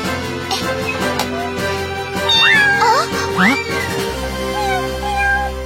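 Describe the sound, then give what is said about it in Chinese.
A frightened cat lets out several loud, strained meows in close succession, rising and falling in pitch, over a steady background hum with no talking. “看来猫咪一定是受到了惊吓，贸然接近它的话，又会跑掉的。”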